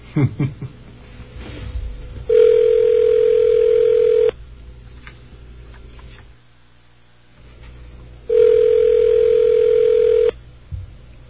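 phone line ringing

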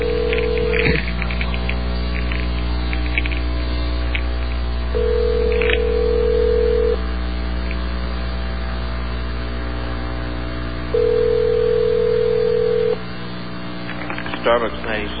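telephone dial tone

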